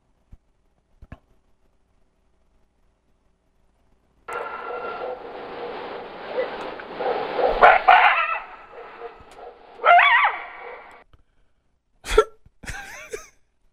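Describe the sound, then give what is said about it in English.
A wolf sound effect: a sustained, harmonic snarling howl that swells for several seconds, followed by a few short, sharp yelps near the end, with no one talking. “Wolves, animal sound effects.”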